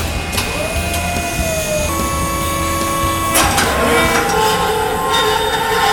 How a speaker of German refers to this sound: Das war's. Die Kamera wird jetzt geschrottet. Das klingt nicht gut. Die ist hin.